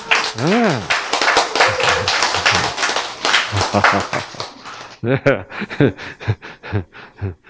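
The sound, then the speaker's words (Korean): Sparse, uneven hand clapping from a few people of the 253rd class: scattered sharp claps that thin out into isolated, irregular smacks toward the end. A brief vocal sound rises over the start. “253기는 박수가 참, 박수가 참, 가물의 콩나기 같아요.”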